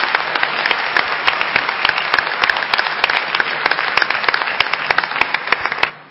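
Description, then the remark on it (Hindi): A crowd applauds former President Dr. A. P. J. Abdul Kalam steadily for about six seconds, a dense wash of many hands clapping with sharp individual claps standing out, fading slightly at the very end. No one speaks over it. “हाँ, तालियां बजाइए।”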